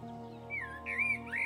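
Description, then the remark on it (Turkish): Soft bird calls warble in three short, rising-and-falling phrases, fairly faint, over a steady low humming drone in the background. “Çevrede kuşların sesini duyuyorsun.”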